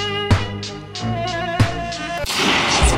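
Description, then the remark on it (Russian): Two sharp, loud pistol shots crack out over a sustained musical tone, fired in Pushkin's last duel, followed by a noisy burst that resembles another blast or its echoing aftermath. “Противники должны были стрелять по моему сигналу.”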